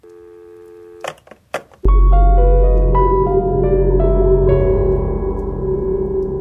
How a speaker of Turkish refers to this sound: Telefonun diğer ucunda Sedat ofisindeki masasında oturmuş Mine'nin telefonu açmasını bekliyor.